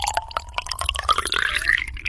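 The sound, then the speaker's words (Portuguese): Water drips steadily, a quick run of small plinks and bright droplet splashes, with a faint gurgling liquid sound underneath and no voices. “Há pessoas que acham relaxante a água, mas isto, para mim só dá vontade de ir à casa de banho.”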